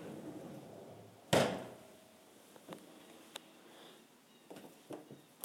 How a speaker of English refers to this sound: And we have an oven door.